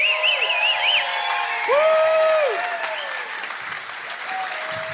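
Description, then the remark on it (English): An audience at a live comedy music show applauds in a steady, dense wash of clapping, with whoops and a few high whistles rising over it before the clapping gradually thins. “Give it up for Chicken Tom. Come on, keep it going for the whole show”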